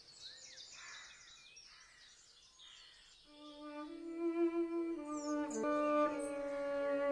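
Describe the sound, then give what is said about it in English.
A nightingale sings rapid trills and whistled phrases, faint, seeming to come from near the ground rather than high up in a tree. After a few seconds a sustained bowed string tone enters and swells beneath the bird's continuing song. “That's the nightingale.”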